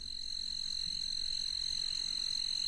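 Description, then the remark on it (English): A fast-calling tree cricket trills steadily and without a break in roadside grass on Tybee Island, Georgia, in August: a high, thin continuous buzz at even volume with faint background hiss and no voices. “Here's a fast-calling tree cricket in August. This is from the roadside grass on Tybee Island, know it well, in Georgia.”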